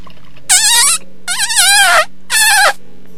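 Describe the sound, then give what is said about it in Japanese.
Three squeaky, high-pitched fart sounds in quick succession, each a short wavering burst, loud with nothing else around them. “ごめん、おならしちゃったー。”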